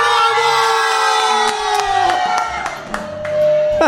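A crowd cheers and shouts loudly and continuously, with whoops and a sustained high tone running underneath, like a hired audience whipped up into applause.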